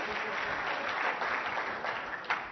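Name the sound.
applause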